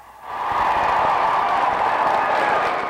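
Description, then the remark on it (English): Sustained, loud applause from a large graduation audience, a standing ovation for the graduates after the valedictorian's speech, dense clapping swelling in quickly and holding steady, with a faint wash of cheering underneath. “Then came the applause.”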